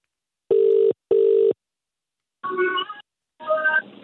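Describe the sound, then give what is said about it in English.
An outgoing call's ringing tone: two short, steady buzzing pulses in quick succession, followed by a pause and two brief, muffled, wavering sounds like a voice over the phone line. “Do you want to take this first one? Ringing him.”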